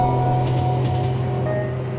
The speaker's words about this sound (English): Oh, that's so loud. Oh, is this our stop? You hear the train slowing down.